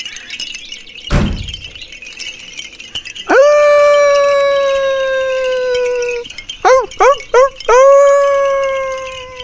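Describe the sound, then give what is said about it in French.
A wolf lets out a long, loud, steady howl after a brief sharp thud, then gives a few quick clipped yelps before starting another howl. No one speaks. “Comment remédier au problème des loups ?”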